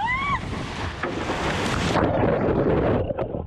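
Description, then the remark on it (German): Steady, loud rush of open Atlantic Ocean water and wind recorded from a rowboat, broad and churning throughout, with a brief rising whistle-like tone at the start and no voices. “Bevor ich gleich mit ihr spreche, geht es aber erst noch einmal kurz mit ihr zusammen, zumindest akustisch, zurück auf den Atlantik.”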